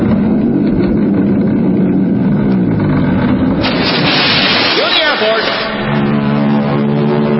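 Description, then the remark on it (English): Royal Canadian Air Force aircraft fly overhead towing a 10-ton maraschino cherry: a loud, steady engine roar that swells, with a whining pitch sweep midway through before settling back into a heavy drone. “Then the Royal Canadian Air Force will fly overhead towing a 10-ton maraschino cherry, which will be dropped into the whipped cream for the cheering of 25,000 extras.”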